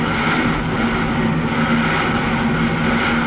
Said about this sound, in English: Sound of a couple of switch engines working never did a man's soul any harm. Bring it up. You are listening to the sound of two steam switch engines switching near the big roundhouse hump just south of Rollins, Wyoming.